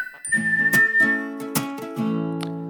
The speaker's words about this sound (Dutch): Oh, wat gezellig. Als ik zo die fluitje hoor, dat fluitje hoor... dan heb ik gewoon weer zin om lekker in de tuin te zitten met een zonnetje.